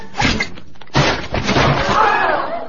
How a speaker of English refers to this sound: Did you see that? Shot the lamp off the ceiling. Not even looking. Fell right down on him. Knocked him out cold.